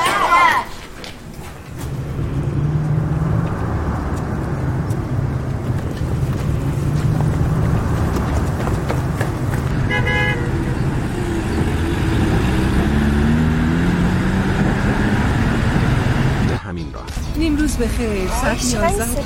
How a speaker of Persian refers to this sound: ساعت 11 این موقع روز باید انقدر ترافیک باشه